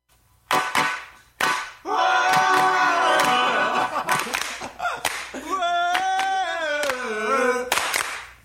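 hand claps

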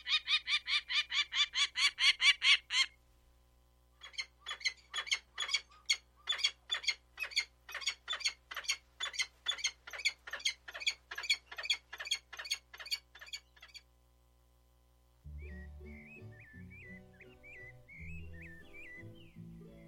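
peregrine falcon calls

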